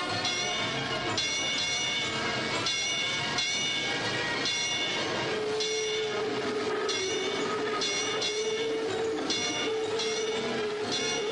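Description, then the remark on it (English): A streetcar rolls along its rails with a loud, steady rumble and a regular clacking rhythm, joined midway by a sustained whining tone from the motor or wheels; no one speaks. “And now, mount your cars, men, and for the few days you have left, ding those bells with pride.”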